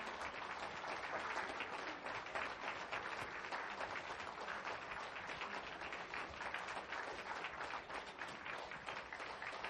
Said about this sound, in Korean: 네, 다시 한번 은혜의 찬양을 들려주신 32교구 청년들에게 큰 박수 부탁드립니다.